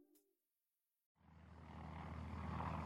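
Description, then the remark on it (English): After a brief blip and a moment of silence, a deep, steady engine drone rises in and swells: a large silver transport plane descending over the Adriatic toward the Venice Lido airfield on June 14, 1934, passing overhead, loud and continuous with no voices. “A large silver transport plane descends from an azure sky.”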